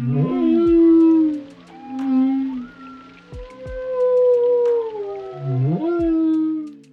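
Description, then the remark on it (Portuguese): Humpback whale song: long, low moaning calls with rising and falling pitch, overlaid by higher wavering whistles and a few short upsweeping whoops, continuing without a break and with no voices. “uma jubarte navegando num túnel acústico, cantando, gritando, chamando.”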